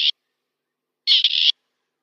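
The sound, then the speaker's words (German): A male grey partridge calls at dusk, between sunset and full darkness, giving harsh, rasping calls: a short grating note, a pause, then a longer scratchy burst with a brief catch in the middle, loud against silence. “Also diese Dämmerungshalbe, dreiviertel Stunde ist dann die Zeit, wo man die Hähne hört, die dann dieses Geräusch machen.”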